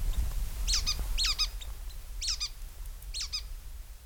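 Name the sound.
white-breasted nuthatch calls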